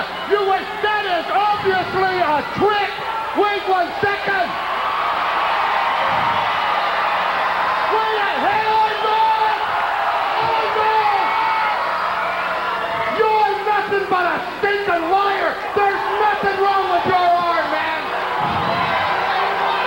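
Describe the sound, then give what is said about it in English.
A packed capacity arena crowd roars continuously in response to Mr. Wonderful Paul Orndorff being announced the winner, with loud cheers, whoops and shouts rising and falling over a dense wall of voices for the whole stretch. “What a response from this capacity crowd.”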